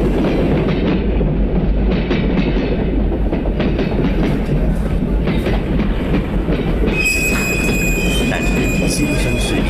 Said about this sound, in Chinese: 有些反对者说，火车冒出的黑烟会影响庄稼的生长，毒害家禽和牲畜。火车的隆隆声吓得母鸡都不下蛋。